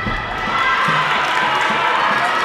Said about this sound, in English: The rest of the team picks up a cheer.